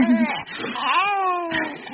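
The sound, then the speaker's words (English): A cat lets out a long, drawn-out meow that rises and then slowly falls in pitch, fairly loud with no one talking over it. “Oh, a cat.”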